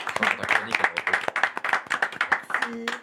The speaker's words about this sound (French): Bravo, on applaudit.